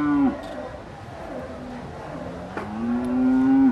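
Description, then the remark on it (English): Cattle moo loudly at an agricultural show, beside the cattle show ring: one long drawn-out low call at the start and another rising, sustained bellow near the end, with a faint murmur of background activity between them. “Beside the cattle show ring”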